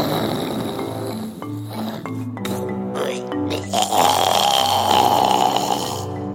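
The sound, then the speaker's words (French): Loud, deep snoring of a dinosaur in a deep sleep, heavy rumbling growls and drawn-out breaths rolling on continuously for several seconds, with no talking over it. “Mais quelques instants plus tard, un ronflement sorti de nulle part avait fait sursauter Rafi.”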